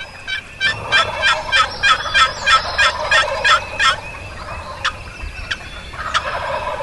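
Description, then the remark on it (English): Wild turkeys gobble across a ridge in a rapid, rattling burst lasting a few seconds, followed by a few sharper isolated calls, heard outdoors with a faint background hush. “Turkeys are now gobbling all across the ridge.”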